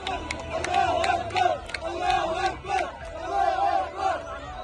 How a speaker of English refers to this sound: But first, there were celebrations in Gaza last night with news that Hamas had accepted the terms of a ceasefire agreement. In the city of Rafah, in the southern part of the strip, crowds of Palestinians cheered.